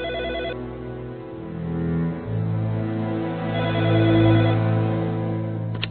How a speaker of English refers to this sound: In his office at Manhattan Monthly, Rex has just sat down at his desk when the phone rings.